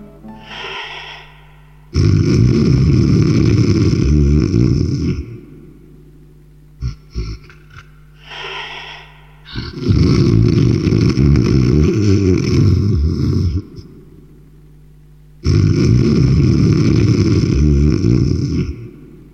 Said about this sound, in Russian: Застонала мать зеленая дубравушка от храпов его перекатистых.